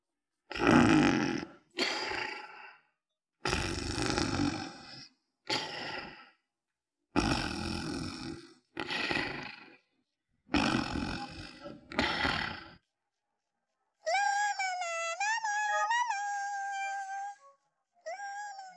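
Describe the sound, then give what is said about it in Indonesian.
A lion roars in a series of loud, deep, rasping bursts, about nine of them with short pauses between, followed by a high, wavering squeaky tone at the end. “Pada suatu hari, hiduplah seekor singa yang gagah dan berani merajai hutan yang luas.”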